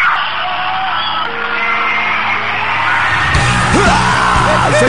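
A short, sharp scream rises out of a loud, noisy crowd near the end, with a few brief yelps following it over the constant din.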